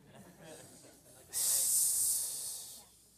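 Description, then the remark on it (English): A single drawn-out hiss of disgust made by a human voice, starting abruptly after a quiet moment, holding steady and loud for about a second and a half, then trailing off. “It's a noise that you just make in disgust. Like, psh. I mean, somebody have a better hissing?”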